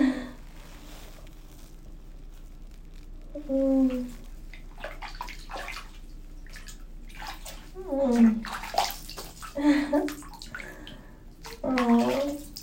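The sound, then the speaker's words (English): Hot water sloshes and splashes in a bathtub in a run of irregular swishes and gurgles, with soft murmuring vocal sounds breaking in now and then. “I feel like my skin is melting into yours in the hot water.”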